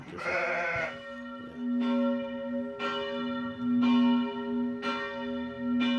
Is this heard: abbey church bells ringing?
yes